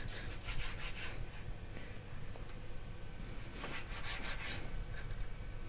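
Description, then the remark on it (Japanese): A knife slices raw chicken, skin included, into small bite-sized pieces in short, rhythmic sawing strokes, coming in two clusters over a steady low background hum, with no one speaking. “続けて鶏肉を切ります。鶏肉はだいたい一口大、ちっちゃめの一口大に切ります。”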